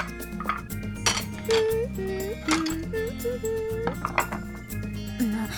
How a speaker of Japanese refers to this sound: 皿を片付けて一箇所に集めるだけでしょ。誰にだってできるわよ。